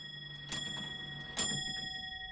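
A grandfather clock ticks with two crisp, evenly spaced beats about a second apart, moderately loud, over a faint sustained metallic ring. No one speaks.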